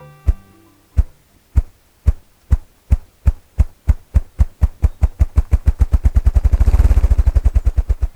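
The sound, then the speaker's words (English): A male ruffed grouse drumming: deep, muffled thumps begin slow and spaced, then quicken steadily into a rapid, blurred whirr before fading, with no voices present. “You're at the edge of a young forest, especially one dominated by aspen and poplar, and you're hearing this accelerating thumping sound.”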